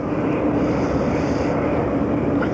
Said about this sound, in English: That sound is the steam coming from some factory over there.